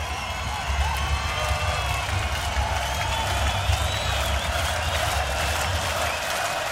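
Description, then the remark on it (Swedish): A large concert crowd roars and claps in a steady, dense wash of noise, with shrill cheers and whistles rising above it. It stays loud throughout, with no break. “Bra röst på publiken.”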